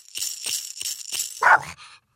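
A single short, loud dog bark stands out midway over a steady hiss of metallic rattling and clinking of coins being banged, which pulses several times before fading to quiet.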